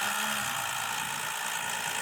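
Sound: car engine idling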